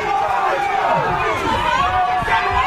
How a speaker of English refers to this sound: The group shouted abuse and decried vaccine mandates. Police officers formed a barrier to allow the Prime Minister to pass through.